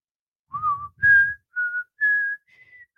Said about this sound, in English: Had to do the whistle.